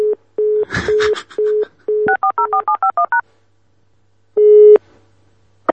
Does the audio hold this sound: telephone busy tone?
yes